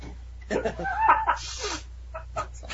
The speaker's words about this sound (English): Cocky sniff.